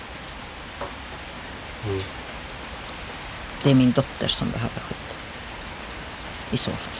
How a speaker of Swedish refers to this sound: Det regnar i Norsborg i södra Stockholm när jag träffar